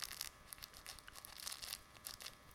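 Crinkly rustling from a fabric toy hedgehog named Hector being squeezed and handled, coming in quick irregular bursts of crackling, fairly soft, with no voices.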